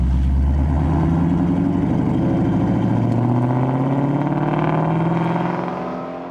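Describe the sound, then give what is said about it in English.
The high-revving flat-plane V8 engine of a new Ford Mustang GT350 screams upward in pitch, loud, its harmonics climbing steadily over several seconds before easing off at the end. No one speaks. “The new Ford Mustang GT350 has a flat plane. Just listen.”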